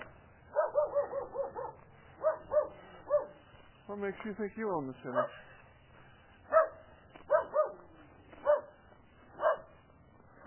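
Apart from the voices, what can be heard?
dog barking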